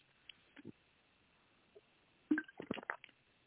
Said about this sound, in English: So let me get a drink of water.